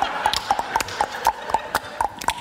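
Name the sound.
voice imitating a horse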